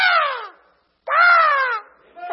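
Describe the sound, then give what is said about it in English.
A person's voice imitates a raven, giving two loud, harsh, drawn-out caws separated by a brief pause, with a third call starting at the end. There is no other speech. “Now imagine Elijah said, what on earth is that stupid raven doing?”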